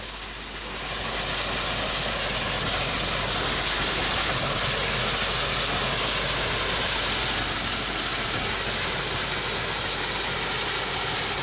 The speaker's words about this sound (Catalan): Bueno, ara escoltarem la màquina de vapor en marxa.